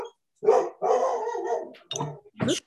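A dog barks and yips excitedly as it is let out to greet its owner, who has just returned from London: a quick string of three or four loud, uneven barks with a brief whine between them.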